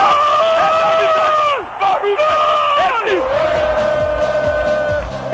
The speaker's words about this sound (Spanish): Que no es la narración del gol, es el alarido del gol.